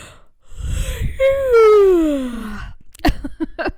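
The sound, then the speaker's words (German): A tired person gives a drawn-out vocal yawn that opens with a low breathy intake, then slides downward in a long moaning tone before trailing off, followed by a brief burst of clicks and breathy sounds. “Und gefühlt war die Hälfte gähnen und wir sind müde.”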